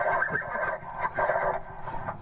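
A horse neighs in a shaky, drawn-out whinny lasting about two seconds, played as a sound effect, heard alone and moderately loud with no talking over it.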